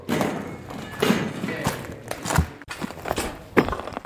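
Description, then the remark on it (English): Footsteps crunch over broken concrete and glass at the battered, centuries-old presidential palace in Khartoum, Sudan, in an irregular walking rhythm, each step a gritty thud with scraping debris, over a steady noisy background. “We walk across broken concrete and glass at the centuries-old presidential palace, occupied by the RSF, until the last days of the Battle for Khartoum.”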